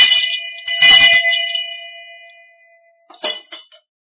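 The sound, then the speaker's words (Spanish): Bells ring out in a few bright, clanging strikes, their metallic tones lingering and fading between hits, followed by a quicker cluster of strikes near the end. Fairly loud, with no talking. “Miren, a ver si oyen estas campanas.”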